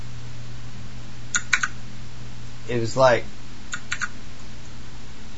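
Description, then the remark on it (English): Two quick pairs of crisp computer keyboard clicks, fairly sharp, made during a radio broadcast, separated by a brief spoken phrase, with a low steady hum running underneath throughout. “what are you clicking on, man?”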